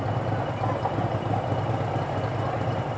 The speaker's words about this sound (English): Man, that is one big motorbike. I can't read what the name is. Two people, very black and silver and shiny.